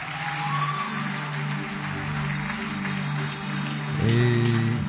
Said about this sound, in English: Clap your hands and take your seat. I said, clap your hands for the King of Kings. Clap your hands if you know you didn't borrow them.